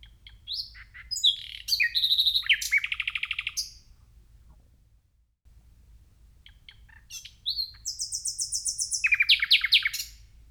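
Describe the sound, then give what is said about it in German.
A nightingale sings loudly in the middle of the night, some distance away, in two bursts: rich, varied phrases of whistles and rapid repeated trills, separated by a short pause, over a faint low background hum. “Jedenfalls habe ich diesen Vogel aufnehmen wollen und bin in Richtung diesen Vogelgesangs gegangen und war dann überrascht, wie weit dieser Vogel weg ist, also wie laut diese Nachtigall eigentlich, ich würde es schon fast sagen, geschrien hat.”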